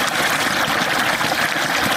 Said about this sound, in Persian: این صدای آب روان را شاید مردم در مناطق جنوب و جنوب غرب افغانستان کمتر بشنوند، زیرا سطح آب پایین آمده و مشکلات ناشی از کمبود آب در بسیاری مناطق افزایش یافته است.